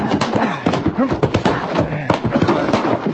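Horse hooves shuffle and thud a few times as a rider climbs down off the horse, mixed with overlapping voices talking.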